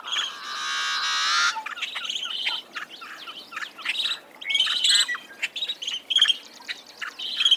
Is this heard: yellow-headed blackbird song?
yes